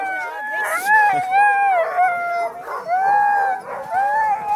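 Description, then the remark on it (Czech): A pack of sled huskies in the snow howls together as they are harnessed in pairs to a sled before a start, loud overlapping wavering howls rising and falling continuously, with a few brief yips breaking in between. “Husky si nějak protestují.”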